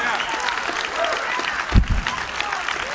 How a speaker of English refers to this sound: If you believe that, I wish you'd just shout this Sunday morning and clap your hands and give God some praise in this place.